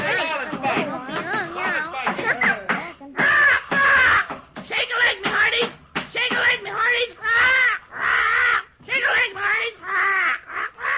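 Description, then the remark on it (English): A dodo bird squawks loudly, a rapid run of harsh, warbling cries and caws in choppy bursts with brief gaps, continuing for around ten seconds with no talking. “Quiet, you blooming dodo.”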